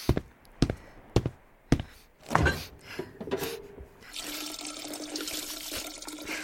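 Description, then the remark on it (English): A few sharp clicks and clunks, then a tap is turned on and water runs steadily into a vessel with a broad, hissing rush, fairly loud, as someone gets water to drink. “I'll get you something to drink. Water.”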